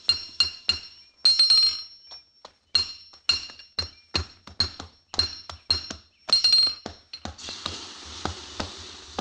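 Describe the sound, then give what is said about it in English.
A hammer strikes metal in a blacksmith shop in a steady, uneven rhythm, each sharp blow leaving a bright, high ringing clang, sometimes in quick pairs, with a soft hissing noise rising at the end. “We had to head for the nearest blacksmith shop, so we turned north.”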